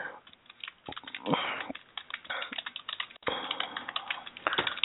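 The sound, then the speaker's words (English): Someone types steadily on a computer keyboard, a flurry of irregular, crisp key clicks with brief pauses, and no one speaking. “And I am typing, and I cannot talk and type at the same time.”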